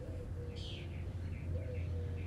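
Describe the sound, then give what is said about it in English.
Faint birdsong, a few short chirping phrases over a steady low rumble of outdoor background noise, with no talking. “A lot of bird song.”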